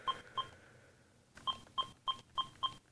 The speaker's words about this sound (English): So I'll dial my cell phone number here on my home phone.